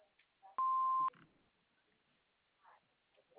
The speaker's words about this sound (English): After the beep, we will return your call.